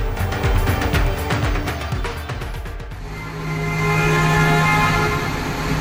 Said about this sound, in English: Emergency crews there, the sound of them in high water trucks and airboats maneuvering through neighborhoods in Houston to rescue desperate people there this week.